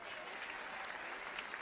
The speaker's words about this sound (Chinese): 你们的掌声比我想象的要少啊。